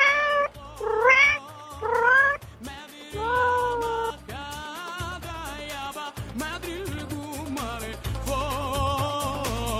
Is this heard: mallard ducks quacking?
no